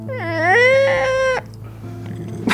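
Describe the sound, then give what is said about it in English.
A person's voice lets out a strained, rising cat-like screech, imitating the strange noise a man made when caught in a lie, like somebody stepping on a cat or a baby crying, held loud for over a second before cutting off, followed by quieter background noise. “He would make this very strange sound, like somebody stepping on a cat or a baby crying.”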